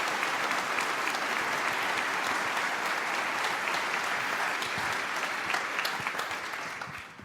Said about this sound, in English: So all the angels that helped actually realizing all these video stuff in general. So big applause for them. It's quite some hours of work.